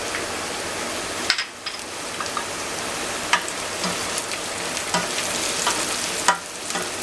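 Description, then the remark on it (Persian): Salted onions with turmeric sizzle steadily in a hot pot, a dense crackling hiss broken by a few sharp clicks and scrapes of stirring, with no voices. “همونطور که پیاز ما داره سرخ میشه”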